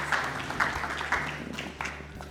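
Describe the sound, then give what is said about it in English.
An audience applauds to thank three people, a steady wash of many hands clapping with soft, regular swells about twice a second, moderately loud and with no voices over it. “Can we all give a warm round of applause and thank you to these three.”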